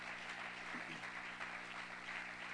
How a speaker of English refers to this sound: Why don't you clap your hands if you're excited about what God's doing.